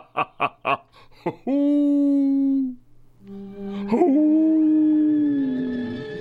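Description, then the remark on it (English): A person imitates a dog howling: a few quick yips, then long, sustained, wavering howls that slide in pitch, loud and alone without other talk. “Oh, I sound like my dog when that insurance commercial comes on.”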